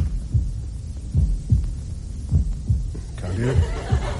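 Muffled, low heartbeat thumps repeat in a steady rhythm, heard through a stethoscope, with a soft throbbing hum beneath.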